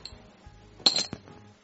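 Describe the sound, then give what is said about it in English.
Dice being rolled on a tabletop to decide who goes first: a short burst of hard clicking and clattering as they tumble and bounce, with a final sharp tap before settling; fairly loud, no talking. “Best 2 out of 3 on the dice roll.”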